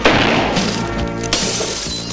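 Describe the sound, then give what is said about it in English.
A loud crash as debris smashes a glass panel in a partition inside a bank, with a burst of breaking glass and a tinkling cascade of shards that fills the whole moment, sharp, with no voices. “Debris smashes a glass panel in a partition.”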